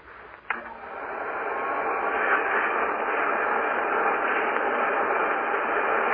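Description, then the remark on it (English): A church's carpet-cleaning vacuum cleaner, brought into a studio, switches on with a click, its motor whine swelling within a second into a loud, steady whooshing roar that holds unchanged to the end, with no one speaking. “This is the vacuum cleaner.”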